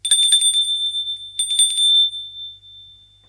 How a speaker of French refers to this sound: Il sonne à la porte.